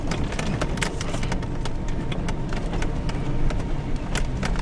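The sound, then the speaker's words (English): A steady, low off-road vehicle engine rumbles continuously while rock crawling above Fish Lake Valley at about 6,200 feet; sharp clunks, cracks and crunches pop up irregularly as the tires grind over rock; no one speaks. “We're rock crawling, kind of, sort of.”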